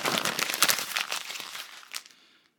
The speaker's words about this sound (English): Make a list of things that you worry about. Write them on a piece of paper. Then, as an act of faith, take the following steps. Then crush the paper and destroy it.